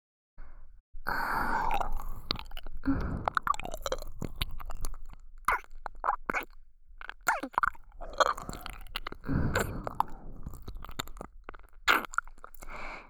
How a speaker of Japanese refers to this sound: お耳を舐めるのってね、私が責めてるみたいだけど、実際は違う感覚なの。